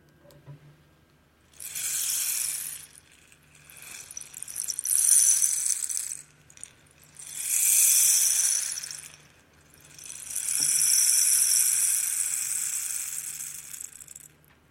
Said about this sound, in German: Regengeräusche, das ist wie eine himmlische Melodie, ein schöner Klang, auch für die Menschen, zu denen der Prophet Jesaja spricht.